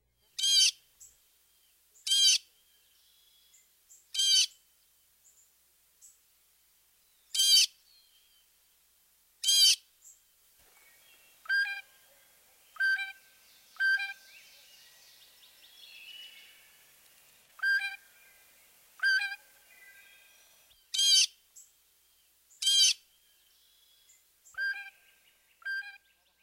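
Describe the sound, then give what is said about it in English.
A blue jay gives a series of short, bright, piercing calls in irregular bursts, loud, with softer chirps and a faint background of other birds between them. No one speaks. “Here's the blue jay again.”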